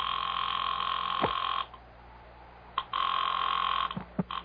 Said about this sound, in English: This morning, he will pick up his phone and dial the private number of a highly placed friend.